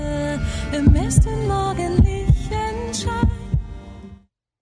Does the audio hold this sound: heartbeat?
yes